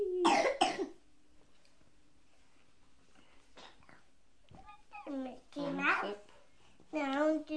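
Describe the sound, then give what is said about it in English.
A child with a bad cough coughs harshly, a rough burst at the start and a couple of fainter ones after a pause, followed by the child's whiny vocalizing. “You've got a bad cough.”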